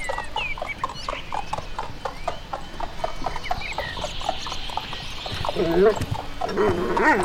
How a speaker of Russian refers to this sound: А к нему подъезжает карета? Ну, с двумя лошадками. Ну, не карета, а, скажем, экипаж.